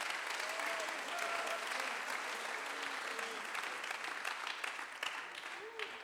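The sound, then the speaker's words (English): An audience at a bilingual English-Spanish church service claps hands unto the Lord steadily for several seconds, a dense crowd applause, with faint voices murmuring underneath. “Clap your hands unto the Lord right aplata now.”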